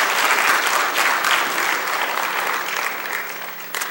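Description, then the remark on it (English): A crowd claps steadily for the mess makers, a dense burst of applause that stays loud throughout and tapers only slightly toward the end, with no voices standing out. “Let's give it up for the mess makers.”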